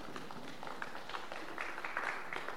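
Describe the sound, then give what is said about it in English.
An audience gives God a hand clap, a steady, dense patter of many hands, fairly soft, continuing throughout without any voices standing out. “You should be giving God a hand clap.”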